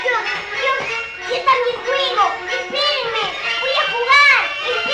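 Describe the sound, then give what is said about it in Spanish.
Several children shout and squeal joyfully as they play on a bright Sunday morning, their high-pitched voices overlapping in a steady, lively chorus with sharp rising cries near the end. “Sus gritos alegres vibraron como el cristal bajo el azul luminoso de la mañana del domingo.”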